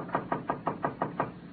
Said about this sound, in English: A faded sign said, La Casa Azul. She knocked on the door of room 12.